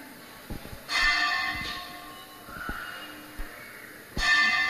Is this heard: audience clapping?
no